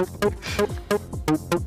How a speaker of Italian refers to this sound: È un bambino, cioè, avete presente un bambino il giorno di Natale che scarta il regalo? Così, esatto. Questo è il classico rumore di scartare un regalo.